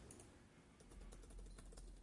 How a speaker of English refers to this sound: I'm sending an email here. You can hear me typing.